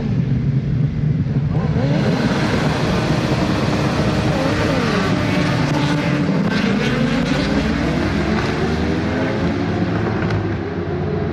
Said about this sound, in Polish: Ostatnia runda wyścigowych motocyklowych Mistrzostw Polski na torze Poznań.